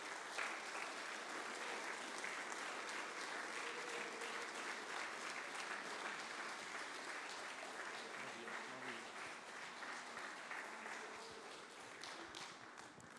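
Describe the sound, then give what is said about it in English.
A large group claps steadily and loudly for about thirteen seconds to welcome a guest speaker, a dense, sustained wash of applause that tapers slightly toward the end, with faint voices mixed in. “Can we just give him a big hand clap today?”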